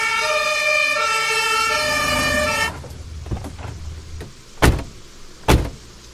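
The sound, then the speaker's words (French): A fire engine siren blares loudly, then cuts off abruptly, followed by a few clunks and two sharp vehicle door slams, as firefighters called by a neighbour arrive on a November evening for a man found unconscious in a ditch. “Il appelle les pompiers.”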